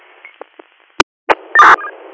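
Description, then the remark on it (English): A few short telephone keypad tones beep irregularly over a thin, hissy radio-like line as a party's phone number is dialed, ending with a louder, longer burst of tone. No one speaks. “Okay, I tried that party's phone number as well.”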